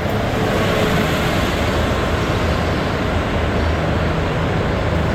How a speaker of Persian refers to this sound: الان ساعت چنده داره اتوبوس رد میشه واقعا؟ کی الان اتوبوس میخواد واقعا؟ چرا؟ الان کی سوار اتوبوس میشه؟ برای چی واقعا؟